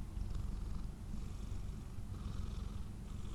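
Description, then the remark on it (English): A cat on a bed purrs steadily, a continuous low rumbling drone with a gentle pulsing rhythm, heard on its own without any talking. “Why, cat? Why, cat? Can you go away, please?”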